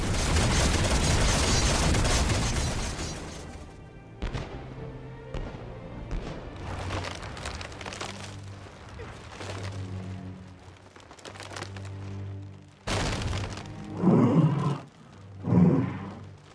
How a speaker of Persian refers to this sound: به خاطر صدای انفجاری که الان اومد امیدوارم اتفاق بدی نیفتاده باشه